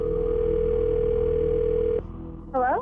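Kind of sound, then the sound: signal or alarm, telephone dial tone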